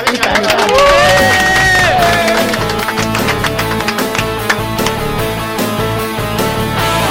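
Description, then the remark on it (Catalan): Loud, steady applause from a crowd for the quiz contestants of a Catalan radio programme, dense rapid clapping mixed with some cheering, with a bright musical tune playing over it throughout. “Igualment per vosaltres, i un aplaudiment, que ho fem molt bé vosaltres, els del concurs.”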